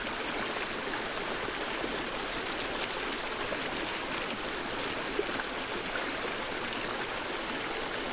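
A steady stream of flowing water runs continuously, a dense, even rush and babble with no pauses, moderately loud, with no voices.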